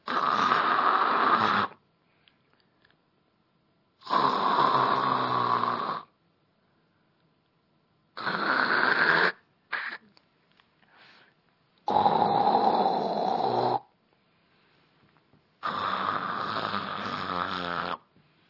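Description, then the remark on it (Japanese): A voice imitates loud snoring as if answering with a snore while feigning sleep, five drawn-out rasping snores with pauses between them, steady, plus a few short sputters in the middle. “誰だ、いびきで返事してるやつだ。”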